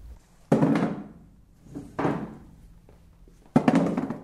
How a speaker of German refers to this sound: Der Mitarbeiter stellt gerade im sogenannten Landhauszimmer die Stühle für die Trauzeremonie auf.